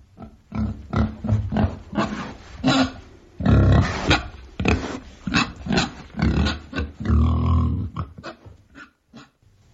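A pig grunts and oinks repeatedly, loud snorting bursts coming in an irregular, uneven rhythm for several seconds, with no talking alongside.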